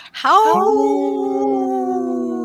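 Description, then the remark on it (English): A lone wolf named Ogama howls, its voice sweeping upward and then holding a long, steady, mournful note that carries on without fading, with no talking alongside it. “I can hear Ogama howl, but I can't see her.”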